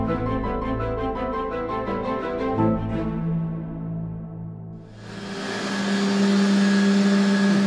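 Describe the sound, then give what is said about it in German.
After a pulsing, tonal opening that fades out, a processing plant that makes fertilizer from recycled excrement and biochar comes in with a loud, steady whoosh carrying a constant low mechanical hum. No one speaks. “Diese Anlage, die ihr da rauschen hört, die gehört zu einem Projekt, das aus recycelten Ausscheidungen und Pflanzenkohle Dünger macht.”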